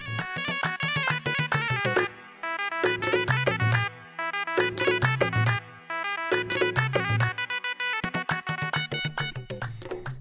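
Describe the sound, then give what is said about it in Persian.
Plucked long-necked lute music on tar and tanbur, offered on a radio programme, plays alone with rapid rhythmic strumming and ringing melodic phrases, steady in volume, with brief pauses between bursts. “تار و تنبور تقدیمتان میکنیم با ای آرزو که آنچه که تقدیمتان میشه تا به دلتان باشه و راضی باشید.”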